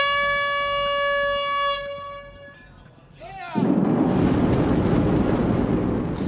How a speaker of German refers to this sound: Mit dieser Sprengung ist der Weg jetzt frei von Nord nach Süd für ein weiteres Bahnteilstück der NEAT.